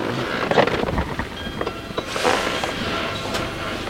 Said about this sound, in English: The door splits open to reveal this beautiful tropical landscape.